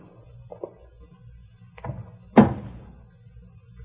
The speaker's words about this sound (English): Well, you've told him good night and shut his door.